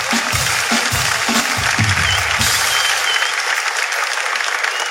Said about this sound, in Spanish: Último programa del año, el mejor público, carajo. Un fuerte aplauso al público, carajo, que está increíble.